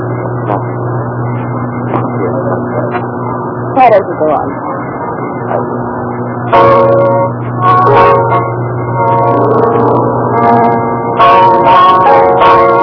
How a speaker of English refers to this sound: Hear that bell.